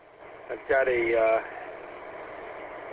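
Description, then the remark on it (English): A car engine idles in a driveway just after the car was backed in, with a steady, low, even hum throughout, briefly overlapped near the start by a short voiced sound before the idle continues alone. “So, all right, I just backed into the driveway.”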